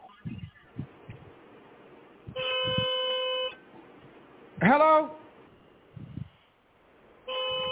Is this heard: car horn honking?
yes